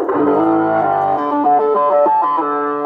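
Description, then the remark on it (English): A gritty, distorted electric bass plays a short run of sustained notes, loud, with a fuzzy harmonic-rich edge and no talking over it. “A distortion, and I also clean it up with a.”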